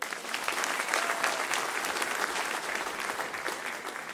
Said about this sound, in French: Bienvenue, on peut l'applaudir.